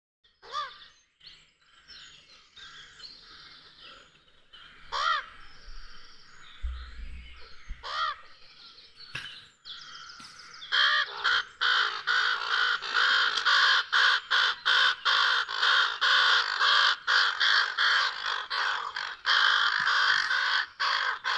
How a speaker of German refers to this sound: Da weiß ich natürlich jetzt nicht, wie genau du es haben willst, aber das wird schon irgendeine Krähe sein. Krähe, ja, Rabe. Sag mal, genau. Krähe, Rabe, es ist der Rabe schlechthin, es ist der Kolkrabe, ja.